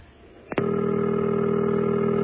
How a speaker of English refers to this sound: Nice deep baritone ring there. Remember all phones used to sound like that?